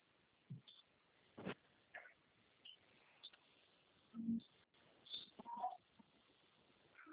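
A small bird calls faintly, giving a few short, scattered chirps against a quiet background with no one talking.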